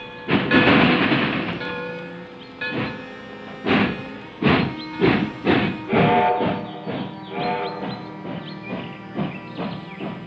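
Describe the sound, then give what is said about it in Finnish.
A steam train on a railway opens with a loud, dense burst, then settles into a steady series of rhythmic chuffs, prominent, with no voices. “Ensimmäinen pätkä rautatietä Suomessa valmistui vuonna 1862 Helsingin ja Hämeenlinnan välille.”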